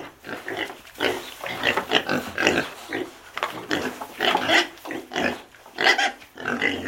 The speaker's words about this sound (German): Er musste die Schweine hüten. Schweine? Richtige Säue?